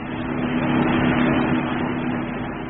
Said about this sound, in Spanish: Lord Ferrison, despojado ya de la ropa sin máscara que le daban la personalidad de Mr. X, conducía su auto de regreso a la finca.